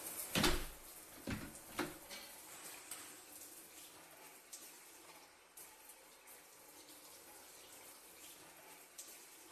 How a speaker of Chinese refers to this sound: 我先关门啦，等我洗完出来再说吧。